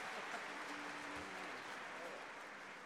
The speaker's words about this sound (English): Let's have a nice round of applause for Bob Bowlby on the tenor saxophone and Michael Monaghan on the alto sax.